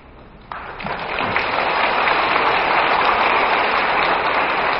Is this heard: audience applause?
yes